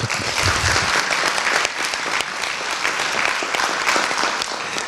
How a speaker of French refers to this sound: On peut l'applaudir.